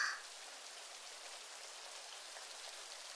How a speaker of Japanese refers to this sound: こんなとこ立ってたら濡れちゃいますよね。どっか雨宿りできるとこは。